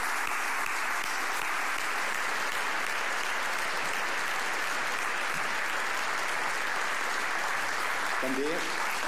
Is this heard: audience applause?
yes